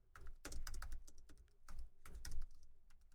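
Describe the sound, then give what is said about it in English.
Rapid typing of notes on a computer keyboard, a quick run of light plastic clicks in uneven bursts with brief pauses between them, and no talking. “I'm going to put that down on there because I need to talk about that.”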